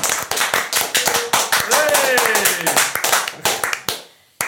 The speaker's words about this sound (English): Hand clap.